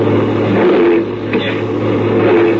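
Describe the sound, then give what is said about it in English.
A truck engine roars and revs steadily with a rough grinding, clattering texture as the driver, with the brakes failed, tries and fails to get the gears to mesh; continuous throughout with no talking. “I can't get the gears to mesh.”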